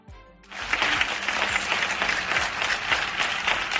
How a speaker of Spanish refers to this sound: Aplausos, un gran aplauso desde los balcones de las casas a las 10 de la pasada noche para dar las gracias por su esfuerzo e infundirle ánimo. La única manera que podemos hacer, pues con este sonido.